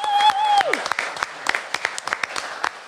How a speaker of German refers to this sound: Also ein Applaus von Us an Jaue, dass ihr überhaupt hier bünd.